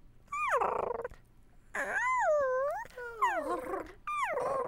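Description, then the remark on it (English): A person's voice imitates a small creature's contented snuggling noises: four gliding, whimper-like coos that rise and fall in pitch, with short pauses between and no talking. “So, like, if the little creature is snuggling in, maybe it's a.”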